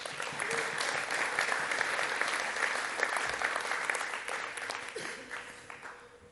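Steady applause from an audience at a church as a man comes up to share a testimony and launch a new ministry, a dense rush of many hands clapping at an even level that tapers off in the last second or so, with no talking over it.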